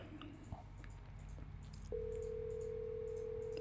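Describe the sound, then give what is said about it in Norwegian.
An outgoing phone call rings out, a steady electronic ringback tone sounding over a quiet line after a brief click, with no one picking up. “Ok, men jeg tenker vi bare legger på nå, så får vi håpe at han ringer tilbake når han ser at vi har ringt da.”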